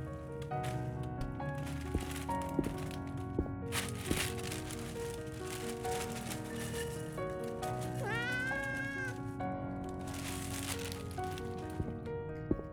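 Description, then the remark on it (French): A cat named Moustique meows insistently for its kibble, its high, wavering cries rising and bending in pitch, set against a constant hiss with a few sharp clicks and knocks scattered throughout. “Oui, Moustique, je te donne tes croquettes et j'y retourne.”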